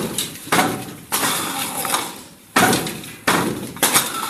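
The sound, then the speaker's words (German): A handloom clatters as its shuttle is shot between the threads and rebounds, banging, giving five or so loud, sharp wooden knocks at an uneven rhythm, each followed by a brief rattling decay. No voices are heard. “Es knallt, wenn das Schifferl zwischen den Fäden durchgeschossen wird und abprallt.”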